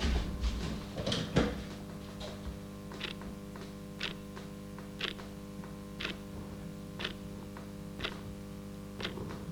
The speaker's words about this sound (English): That is the clock ticking in the studio. Isn't that absolutely amazing? Absolutely, completely useless.